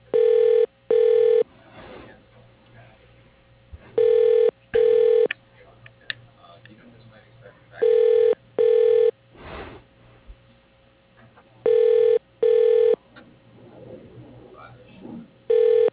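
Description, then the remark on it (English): Telephone keypad dialing tones on the automated phone line of GW Williams General Contractors, beeping in quick pairs, repeating about every four seconds. Each beep is loud, short and steady in pitch, with faint muffled background noise between the pairs. “If you know your party's extension, you may dial it at any time.”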